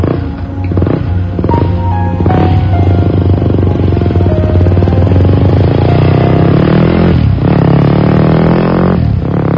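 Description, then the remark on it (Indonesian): A motorcycle engine idles loudly as it is being warmed up, its throttle blipped in several sharp revs that rise and fall, with a steady rumbling drone between them and no voices. “Kataku pada Budi yang sedang memanaskan motornya.”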